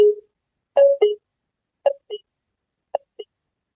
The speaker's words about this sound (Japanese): それでは最後に、開閉するときにドア付近にいるお客様を赤外線センサーが感知したときに注意喚起として流れる音声を聞いてみてください。